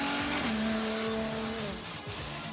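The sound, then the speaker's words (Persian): A hybrid Ferrari sports car engine roars with a steady, loud droning tone that shifts pitch as the car pulls away, with rushing road and tire noise underneath and no voices. “تو این فراری خودتون رو بخشی از ماشین حس میکنید و به خاطر صندلی های جاسازی شده یه لفراری تقریبا همچین حالتی رو هم داره.”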